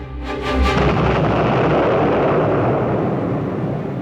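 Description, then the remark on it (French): A loud bomb of plastic explosive with a detonator blasts in front of a house with a deep boom, then rolls into a sustained roaring rumble of debris and echo that slowly fades over several seconds. No voices. “L'explosion devant la maison de Tahar Septi doit servir d'avertissement.”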